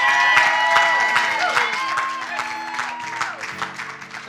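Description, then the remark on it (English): An audience claps their hands together in praise of God in a dense, sustained wave of applause, with voices calling out and a held musical tone underneath, easing off slightly toward the end. “Somebody give God a hand clap of praise.”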